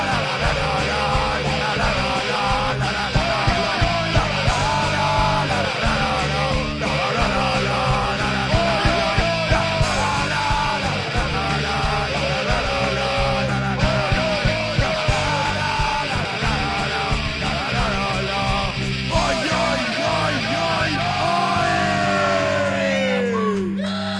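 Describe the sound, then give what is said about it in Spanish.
A dense, continuous roar of many voices shouting and chanting together, loud, with bursts of yelling and whoops rising over the crowd's rhythmic Sunday-afternoon chorus throughout. “No, aquí se ha podido observar los gritos que decíais, los coros de domingo por la tarde, como ha dicho aquí el técnico Muñiz, o sea, que se ha podido apreciar perfectamente.”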